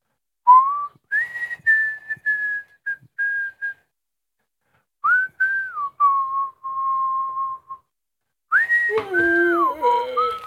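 person whistling a tune

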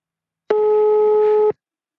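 telephone ringing tone

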